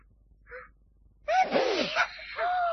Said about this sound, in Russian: Он чихнул, девочки. Очнулся.